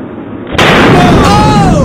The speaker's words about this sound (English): Here it is. This is a balloon popping in slow-mo. Listen to this.